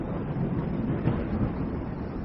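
A deep, continuous rumbling roar like distant thunder, as of countless great thunderclaps bursting far away near the horizon, rolls steadily throughout, heavy in the low end with no clear breaks and no voices.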